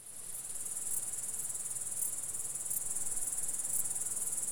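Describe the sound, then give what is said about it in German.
A grasshopper chirps steadily by rubbing its wings together or against its legs, a high, bright buzzing trill that runs continuously with faint periodic pulses, clear with no voices. “Reiben sie ihre Flügel aneinander oder an den Beinen, entsteht das Zirpen, ihr typisches Geräusch.”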